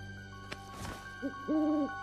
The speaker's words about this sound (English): It's just an owl, Bailey.